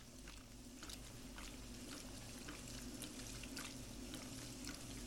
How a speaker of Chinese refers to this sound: 这是什么？哎，这是水声吗？短暂却长如一个世纪的停顿过后，滚筒洗衣机开始了运作。